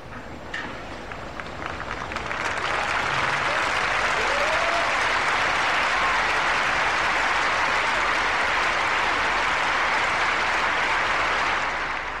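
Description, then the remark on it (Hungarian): A large crowd of pilgrims in St. Peter's Square in the Vatican applauds steadily in greeting, a dense, continuous wash of clapping that swells in the first two seconds and holds loud and even until the end, with faint scattered voices underneath. “Az ő tapsukat és egyben köszönésüket hallhatták az előző pillanatokban.”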